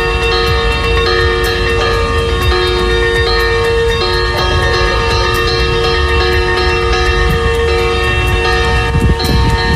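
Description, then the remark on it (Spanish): Bells peal continuously for the whole stretch, their bright ringing tones overlapping into a dense, sustained wash, with a steady low rumble underneath and no voices. “No sé si nuestro siguiente invitado reconoce ese repique de campana.”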